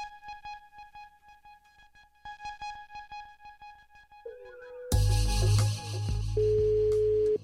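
A steady electronic phone ringing tone hums for about four seconds with faint rhythmic clicks while a call is placed to a new mobile number for the first time, then a sudden loud, noisy burst of sound cuts in and takes over.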